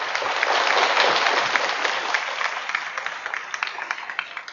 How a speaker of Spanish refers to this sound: Vamos a dar un aplauso bien lindo, por favor.